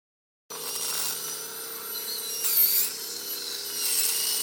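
A dentist's drill whines steadily as a dentist drills at the molar of an elderly female patient in the patient's living room, in the Uckermark around Templin in northeastern Brandenburg, Germany; a high-pitched sustained tone with a low hum beneath, briefly rising in pitch and intensity midway before settling back.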